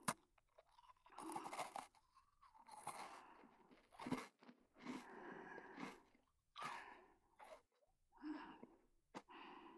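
crunchy snack being chewed

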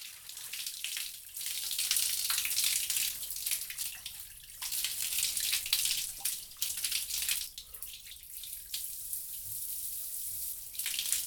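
shower water spraying

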